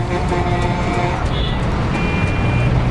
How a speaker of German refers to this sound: Daraus folgend ist der Verkehr rasant angewachsen. Die Berufstätigen des einst verschlafenen San Josés quälen sich mittlerweile durch immer länger werdende Staus.